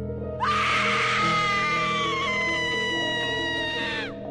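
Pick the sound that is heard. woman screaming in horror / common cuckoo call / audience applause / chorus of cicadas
woman screaming in horror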